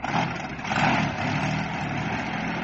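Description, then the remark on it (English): A vehicle engine labors as if struggling to start, a loud, continuous rough drone that surges slightly and settles, with no voices over it. “If the engine's broken down and we're stranded up here, I think I'm going to throw a fit of hysterics.”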